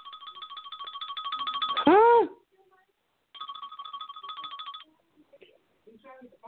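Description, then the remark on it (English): A cell phone rings as someone calls in to test whether it is working, a rapid, warbling electronic trill in two bursts separated by a short pause, broken by a brief loud swooping voice-like sound, with faint murmurs at the end. “Call me. I want to see if my phone is working so that when I do my next episode, I know what I'm doing.”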